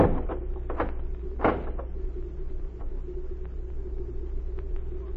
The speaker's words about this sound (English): Then get in the barn and keep quiet. You'll get in there with her. Hurry, I haven't time to talk. All right. Close the door.